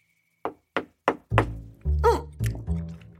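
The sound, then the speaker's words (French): Three crisp, evenly spaced knocks on a door, fairly loud, followed by a few heavier, more resonant thumps that ring out briefly. No one speaks. “Il était en train de se goinfrer de fruits quand quelqu'un toqua à nouveau.”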